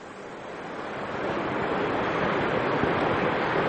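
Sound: high ocean waves crashing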